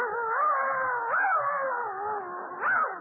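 A dog lets out a long, wavering howl that rises and falls in pitch for about three seconds, fairly loud, with no talking.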